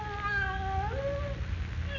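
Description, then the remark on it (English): A cat lets out a long, drawn-out meow that wavers and bends in pitch, fairly loud, over a steady low background rumble. “Maybe she passed away and turned into a cat.”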